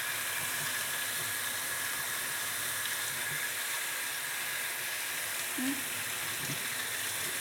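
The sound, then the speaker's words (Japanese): A shower runs steadily, its water spraying in a continuous hiss that stays even from start to finish, with only a faint, brief murmur partway through. “シャワーの音であんまり聞こえないの。”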